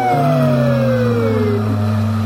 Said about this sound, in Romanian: N-ați auzit? E mașina salubrității și buldozerele. Mașini, motoare, claxoane, sirene